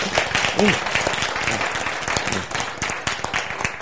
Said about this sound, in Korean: 박수!